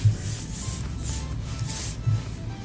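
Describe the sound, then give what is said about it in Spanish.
Folded paper slips with names rustle as three are drawn out in a draw, a series of soft, crinkly swishes repeating every half second or so at a steady, low level, with no voices. “Bueno, tengo acá los papelitos y entonces voy a sacar tres.”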